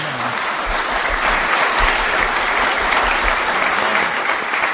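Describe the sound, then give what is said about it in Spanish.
Sustained applause from an audience for the president of the cooperative, a dense, even wash of many hands clapping at steady loudness throughout, with no voices standing out. “Vamos a dar un aplauso al presidente de la cooperativa, que entre otras personas ha hecho posible que estemos aquí.”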